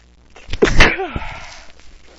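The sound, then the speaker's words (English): A person sneezes once, fairly loud: a sharp burst of breath with a short voiced tail, followed by quiet background noise. “Oh, usually not sneezing, it's just something that's really bothering me, but good.”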